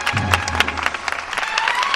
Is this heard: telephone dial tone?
no